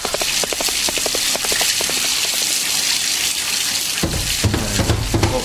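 Water runs steadily from a tap in a continuous, hissing rush, with a quick rhythmic clattering in the first half and a deeper rumble joining near the end.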